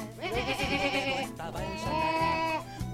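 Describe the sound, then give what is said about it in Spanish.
A female impressionist imitates a cow with two drawn-out, wavering moos, each lasting over a second, fairly loud with a short pause between them and no other talk. “… es la imitadora más importante de la Argentina, ¿eh? Te imita, por ejemplo, no sé, una vaca.”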